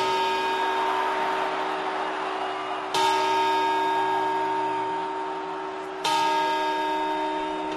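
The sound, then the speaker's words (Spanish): The Puerta del Sol clock tower bell strikes three times at midnight, about three seconds apart, each loud, resonant toll ringing on and blending into the next with a rich, sustained hum of overtones. “Comernos las uvas mientras suenan las campanadas de la Puerta del Sol.”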